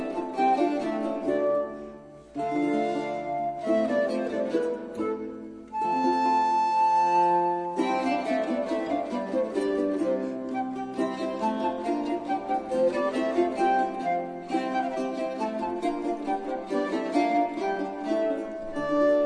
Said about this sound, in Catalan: Bé, fins ara campanes, ara fixa't que estàvem sonant flautes.